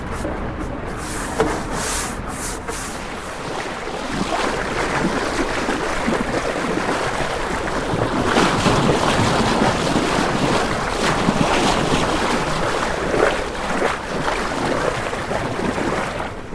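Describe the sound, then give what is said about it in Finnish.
A boat's bow rushes steadily through water, a broad continuous hiss and swash with surging waves, mixed with wind buffeting the microphone. No one speaks. “Tämä ihana soundi, kun kokka kohisee, kun mennään.”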